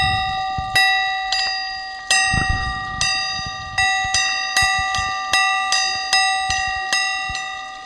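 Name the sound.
large church bell ringing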